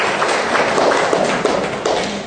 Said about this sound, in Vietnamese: Ôi giời ơi, rồi chúng ta cho một tràng pháo tay vào tất cả những câu trả lời đó.